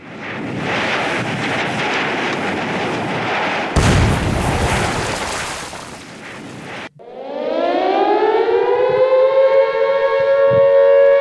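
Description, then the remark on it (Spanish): A loud, roaring explosion bursts out of a rushing din and rumbles for a few seconds, then a siren winds up, rising steadily in pitch and holding loud to the end. “Las pizzas crecieron y explotaron.”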